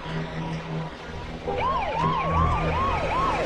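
An ambulance siren kicks in partway through, its rapid rising-and-falling yelp repeating steadily over a low rumble of traffic, fairly loud.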